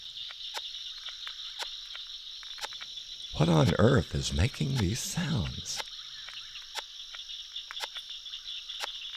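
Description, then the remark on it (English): Sharp, scratchy clicks of pine sawyer larvae, a type of long-horned beetle, chewing inside a large fallen pine at a swampy spot repeat at irregular intervals over a steady high insect drone, and a person briefly speaks partway through. “These are the chewing sounds of the larvae of pine sawyers, a type of long-horned beetle”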